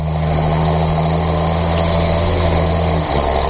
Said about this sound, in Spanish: Suena menos, pero todavía el diésel no suena a esto, ¿verdad? Bueno, es por ejemplo el sonido característico de un tractor.